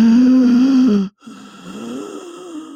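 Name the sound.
imitated heavy labored breathing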